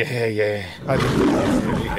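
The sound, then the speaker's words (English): A person imitates a saber-toothed tiger's roar, starting with a low voiced growl that breaks into a loud, raspy roar lasting about two seconds. “I mean, you could do a saber-toothed tiger.”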